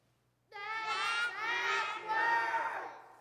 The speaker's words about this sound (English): When the time came for his trial, the king stood before the people, and instead of shouting, "All hail the king, long live the king," they shouted, "Crucify him. He is not our king. Crucify him."